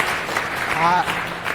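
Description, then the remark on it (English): An audience at a technical talk about optimizing zbus claps in a dense, steady patter of many hands that holds at an even loudness throughout, with a brief voiced tone rising out of it midway. “I think you should wait, and you're not disappointed before you clap.”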